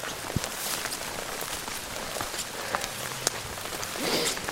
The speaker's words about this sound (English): So we're in the rain, as you can probably hear. We're walking up the side of Mount Royal. It's quite steep, mostly covered in grasses with a few trees poking out here and there.